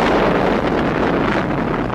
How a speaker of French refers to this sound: Voici en toute première mondiale le bruit de l'explosion de la première bombe atomique française.